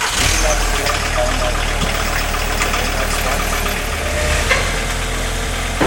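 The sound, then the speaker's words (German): A car runs on brake test stand rollers, a loud, steady mechanical drone and rumble that holds for several seconds, with indistinct voices mixed into the background. “Dann noch der Bremsenprüfstand und die Überraschung.”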